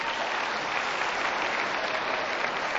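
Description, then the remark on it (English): A crowd on WMNF claps steadily in a sustained round of applause in answer to a question about licking a frog to get high, dense and even throughout, with no voices standing out above the clapping. “How many people, by round of applause, knew that if you licked a frog, you got high?”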